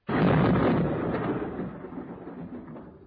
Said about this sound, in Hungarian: Na, már dörög is. Tévedés, tévedés. tévedés, kedves ellenségem, nem a menny dörög megint tarack ütegeink királyságotok határain.